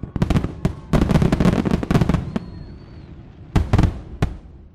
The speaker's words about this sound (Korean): 독립기념일 밤이 되면 미국 전역에서 불꽃놀이가 펼쳐집니다. 7월 4일엔 미국 안에서 불꽃놀이를 안 하는 곳이 없을 정도로 대도시는 물론이고 마을마다 불꽃놀이가 펼쳐지는데요.